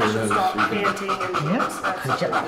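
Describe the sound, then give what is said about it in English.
A female detection dog pants rapidly through an open mouth in quick steady breaths during a scent-detection training exercise, with faint murmuring voices in the background. “You can hear the difference in her breathing pattern.”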